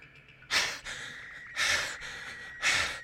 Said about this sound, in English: I gasped for air, the narrow escape and my wounds catching up to me. I was having trouble catching my breath for some reason.